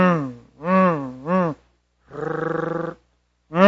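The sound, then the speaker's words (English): A man vocally imitates a car starter failing to crank when the car's alternator has gone bad, the solenoid trying but unable to crank up the car: three loud, wavering groans, a pause, then a buzzy, rapidly stuttering drone, and another groan starting at the end. “The solenoid trying to crank up, but it can't crank up the car.”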